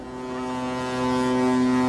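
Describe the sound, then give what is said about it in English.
A deep, steady ship's horn blares continuously as a boat leaves the harbor on a Norwegian shipping route, a loud sustained low tone with rich harmonics that swells slightly as it holds, with no voices present. “Watching that boat leave the harbor”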